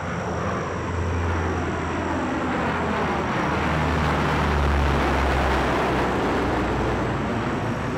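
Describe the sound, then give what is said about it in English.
Large 80-foot-long four-engine Hercules military transport plane roaring steadily, a loud, dense engine drone with low throbbing hum that stays constant throughout, no voices. “These were big aircraft, 80-foot-long, four-engine Hercules military planes, which had to land without being seen.”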